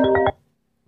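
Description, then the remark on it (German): A mobile phone ringtone plays briefly: a loud, bright electronic melody in three quick pulses, cutting off after a fraction of a second and leaving silence. “Weil ja, wir kamen ja auch so auf die Idee, weil ich da Handy klingelt.”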